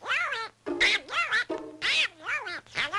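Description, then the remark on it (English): Squawky, nasal cartoon duck voices of Donald Duck's nephews Huey, Dewey and Louie, who debuted in 1938, quack and jabber in a rapid string of about half a dozen loud bursts, one tumbling right after another with only brief gaps. “A change in pace, Donald Duck's nephews, Huey, Dewey, and Louie, made their cartoon debut in 1938.”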